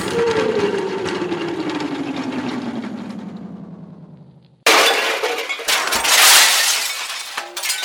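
A long descending whistle of something falling, then a sudden loud crash as a transmission tower smashes apart after a figure falls into it, with shattering, clattering debris that rings on for a few seconds. No one speaks.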